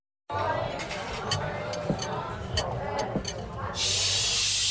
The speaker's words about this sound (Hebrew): מחפשים אלוף במטבח? סנו תנורים פורטה פלוס. סנו תנורים פורטה פלוס עם מתז קצף, אלוף בניקוי לכלוך קשה ושומן שרוף מתנורים, תבניות, סירים ועוד.